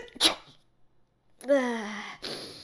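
a sneeze

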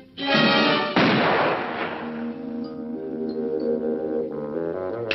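gunshot

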